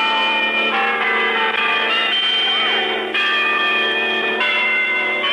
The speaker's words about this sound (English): And the nation said hooray. With bells and sirens in Oliphant, Pennsylvania, home of freed hostage Mike Matrinko.